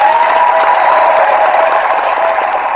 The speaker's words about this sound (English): a round of applause for standing up for yourself and telling it like it is, girl.